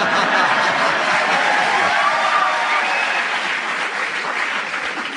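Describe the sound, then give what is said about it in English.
An audience at a buzzer quiz show claps steadily and loudly for about five seconds, a dense, continuous wash of hand claps that holds its level before easing slightly at the end. “I think the audience applause has decided it for me.”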